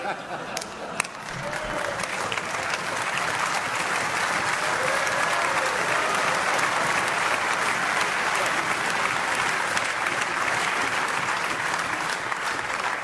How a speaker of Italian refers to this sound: That's the last time you are applauding here.